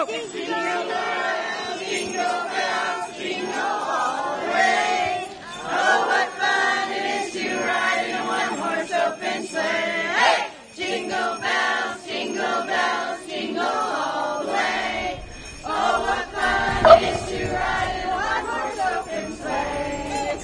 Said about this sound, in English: You know, I think Jingle Bell is the tune of the day, and this looks like a Jingle Bell kind of group. All right, you guys ready on the count of three? Okay, here we go. One, two, three.